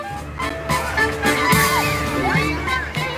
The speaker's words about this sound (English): People in Highland Park, Illinois, with their kids, enjoying a 4th of July parade, celebrating the birth of this nation.